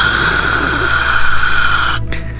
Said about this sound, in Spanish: Entonces se iban hasta la orilla donde ya no había señal y se oía puro ruido blanco o gis, algunos llaman gis. Vamos a escuchar.